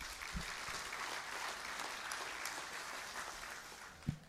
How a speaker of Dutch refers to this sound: Ik weet niet of er al een wist dat er wat van zegt, maar wat mij betreft kan die man van het geluid ook wel een applausje geven.